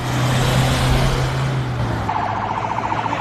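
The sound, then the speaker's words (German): A convoy of dozens of cars, carrying detainees to the high-security prison in Silivri, about 70 km west of Istanbul, rumbles past with a steady engine drone, and partway through a rapid warbling siren cuts in over the traffic noise. “Dutzende Wagen fahren im Konvoi zum Hochsicherheitsgefängnis in Silivri, rund 70 Kilometer westlich von Istanbul.”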